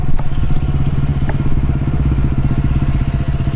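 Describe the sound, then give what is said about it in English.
A motorbike engine runs steadily on a dirt fire trail in the bush near the Royal National Park, south of Sydney, its rider in full motorbike gear: a loud, rapid low-pitched throb that holds even throughout, with faint crackles over the top and no voices. “though he had all of that motorbike gear on”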